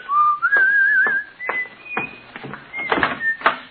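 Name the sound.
man whistling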